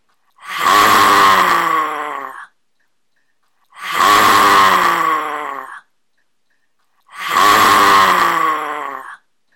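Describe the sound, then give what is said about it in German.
A person, with tongue stuck far out, eyes rolled and upper body leaning forward, lets out three loud, rasping roars in imitation of a lion, each lasting about two seconds with a brief pause of silence between them. “Dann streckst du deine Zunge ganz weit raus, verdrehst deine Augen und brüllst dreimal wie ein Löwe.”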